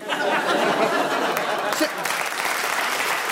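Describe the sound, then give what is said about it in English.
A steady wash of audience applause fills the space, dense and sustained, with a murmur of crowd voices and a few chuckles mixed in beneath the clapping. “Don't clap.”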